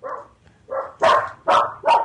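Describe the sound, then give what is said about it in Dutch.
A dog barks five times in quick succession, the first two softer and the last three sharper and louder, with no one talking over it. “Momentje, mijn hond, hè?”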